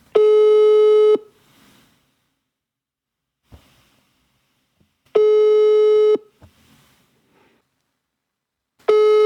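A telephone ringback tone sounds while a call connects: long steady buzzing tones about a second each, repeating every few seconds with quiet gaps and faint background noise between them.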